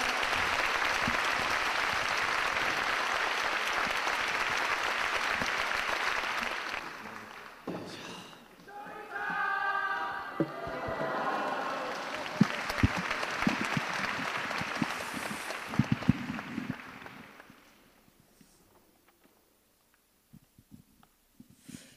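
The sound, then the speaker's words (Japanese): An audience welcomes the speaker Saito Hitori, clapping steadily in a dense, sustained wave of applause that dips briefly, swells again with some voices mixed in, then fades out into near silence. “皆様拍手でお迎えくださいませ。”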